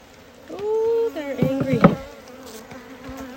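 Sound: honey bees buzzing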